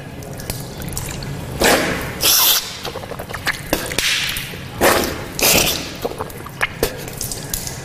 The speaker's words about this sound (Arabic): تمضمضت يعني الماء لما أخذته بيدي شيء دخل إلى الفم وشيء دخل إلى الأنف، ثم نثرت بيدي اليسرى. هكذا السنة أن المضغة الماء نأخذه باليمنى وننثر في اليسرى.